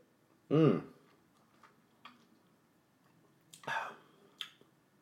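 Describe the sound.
A short slurping sip of a drink, with soft mouth clicks and a brief hummed voice sound near the start, all fairly quiet against a near-silent background.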